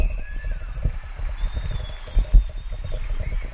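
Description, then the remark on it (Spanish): Many neighbours clapping from balconies, a dense, steady patter that continues throughout, with a few thin whistles rising above it. “Y como te digo, el aplauso es mucho más intenso y mucho más largo que ayer.”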